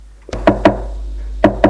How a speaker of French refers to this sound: On frappe à la porte.